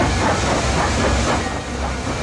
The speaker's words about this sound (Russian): Вот он, поезд. Да, это музыка для Анны Карениной, видимо, вот эти звуки.